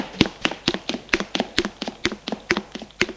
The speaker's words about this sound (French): Je descends les escaliers en vitesse.